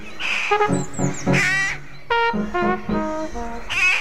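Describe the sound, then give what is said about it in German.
Several rooks in Laubheim caw harshly and repeatedly, their rough calls overlapping in a busy chorus with brief gaps, no talking underneath. “Die Saatkrähen sind ein richtig heißes Eisen in Laubheim.”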